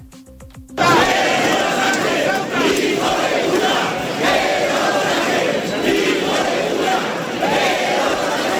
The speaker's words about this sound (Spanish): Lo que más se escuchó en la plaza fue gritos para pedir la dimisión del presidente Sánchez, a veces llegando al insulto.